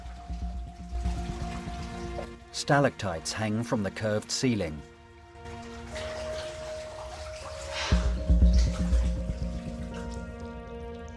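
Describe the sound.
Water sloshes and splashes steadily as people wade, at points waist-deep, through clear, cold water in a narrow aqueduct tunnel. A continuous watery churn echoes beneath a man's narration and a few louder surges.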